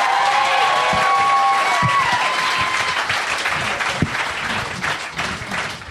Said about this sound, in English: Give this lady a hand for coming up here.